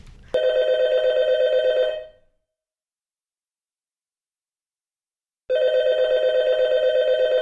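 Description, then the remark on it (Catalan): A telephone bell rings in two loud bursts of rapid trilling, each lasting about two seconds, separated by a long silent pause, with no voices. “Podeu començar a trucar.”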